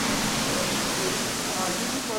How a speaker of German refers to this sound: In der Kammer hängen viele Rohre von der niedrigen Decke. Aus ihnen schießt mit Wucht das Grundwasser lautstark auf Metallplatten. Es ist der erste Schritt der Aufbereitung zum Trinkwasser.